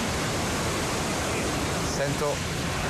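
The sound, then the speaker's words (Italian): A loud, steady roar like airplanes, heard over a phone in Pozzuoli, fills the whole clip without letting up, with a faint voice briefly surfacing beneath it near the end. “Sento un fracasso, guarda del diavolo, che stavano, sembrano aeroplani.”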